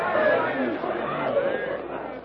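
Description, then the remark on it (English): A dense mob shouting and clamoring at once as it crowds around four captives, loud, with overlapping yells forming a continuous agitated din and no single clear speaker. “Yelling and gesticulating savagely, the yellow-skinned mob crowds around the four captives.”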